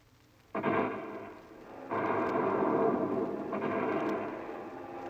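Bomber planes flying over, a heavy, droning roar that surges in abruptly, eases briefly, then swells again and holds steady, loud and rumbling with no voices.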